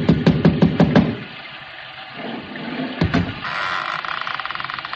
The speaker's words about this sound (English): I lifted the bronze idol and rapped on the door with it, and the voices stopped.